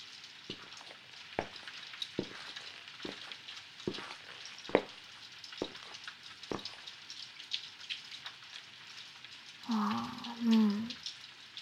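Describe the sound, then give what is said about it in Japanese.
Steady rain, heavier than earlier, hisses throughout, with scattered louder drops hitting, and a brief low murmur of a voice rises near the end. “さっきより雨強くなってる気がする。”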